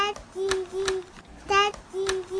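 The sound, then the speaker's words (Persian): A toddler babbles "yadidi" in a high, sing-song voice, repeating short syllables in four or five quick bursts, with small clicks between them. “پدر سوخته زبون باز کرد، میگه ددی. نه جانم، میگه یدیدی.”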